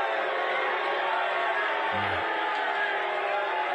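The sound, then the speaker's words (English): A large libertarian crowd boos Donald Trump during his speech in a dense, steady roar that holds at an even, loud level for the whole stretch, with a brief low hum breaking through midway. “It the booing was so triggering to the failed former president that the glitches began.”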